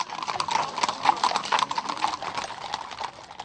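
Many horses' hooves clip-clop in a steady, overlapping patter of sharp knocks: several horses of a mounted pilgrimage procession walking together through green hills, with no voices over them.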